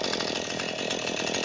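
A motorized saw runs steadily at a loud, droning pitch, its harsh buzzing engine noise constant throughout with no voices or pauses.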